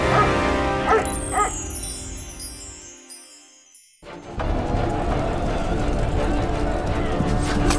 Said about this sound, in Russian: Алтай. Да вот он, видите, лает, зовет нас. Бежим за Алтаем.